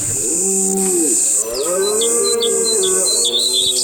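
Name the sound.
birds chirping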